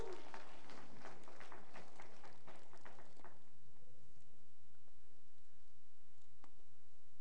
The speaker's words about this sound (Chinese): 好，我们热烈掌声。